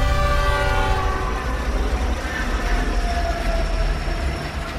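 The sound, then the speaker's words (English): An approaching train's loud, sustained whistle blares over the heavy rumble and rattle of the rolling train on the tracks, continuous for the whole stretch, with no voices. “the intensifying shakes and ear-splitting whistle told him that death was getting close.”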